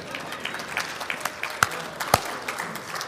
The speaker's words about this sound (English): It's okay to clap in this church. You're okay.